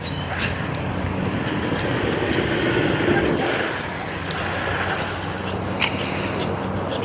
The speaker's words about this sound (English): noisy truck coming up behind me here. All right, we crossed the road before he's at this intersection, so that's okay.